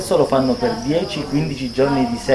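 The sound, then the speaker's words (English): A steady, high-pitched trill from 45-day-old male crickets giving their mating call, swarming on cardboard egg cartons that serve as their nest, runs unbroken through the whole clip, with a man's voice talking over it in the foreground. “explaining that the trill that we're hearing is actually the mating call of 45-day-old male crickets.”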